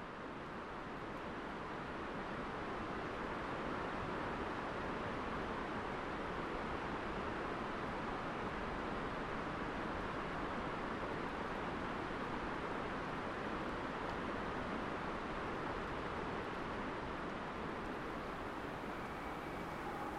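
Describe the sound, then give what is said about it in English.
A steady, broad rushing roar of a distant river, the Ho River that drains a rainforest, fills the air without pause, a smooth wash of water noise echoing off the far side of a valley, with no voices present. “And then we'll hear further away the sound of the Ho River that drains the rainforest, echoing off the far side of the valley.”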